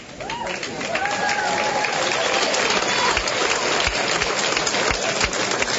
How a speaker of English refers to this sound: Now, let's give the cheerleaders a round of applause for their support all year.